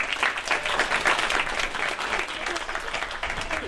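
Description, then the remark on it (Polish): A crowd at an art exhibition applauds the artists steadily for several seconds, a dense patter of many hands clapping at an even loudness, with a few voices faintly mixed in beneath. “Także wielkie brawa dla artystów w ogóle.”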